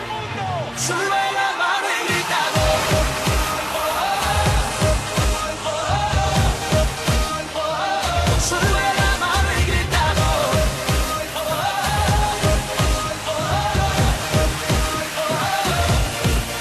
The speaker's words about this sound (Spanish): tenemos una cabecera incluso, una música, ¿no? Que habéis traído. Sí. Vamos a escucharla un poquito.